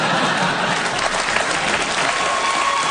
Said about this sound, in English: Are we applauding sex?